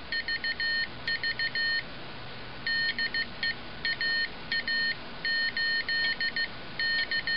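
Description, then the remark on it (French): Morse code beeps: a steady, high-pitched tone keyed on and off in quick dots and dashes, grouped in bursts with short gaps between, over a faint background hiss. “en fait, les débuts de la radio, le morse a été créé aussi au 19e siècle, et la radio, au début, ce procédé, la télégraphie sans fil, ne diffuse que du langage morse.”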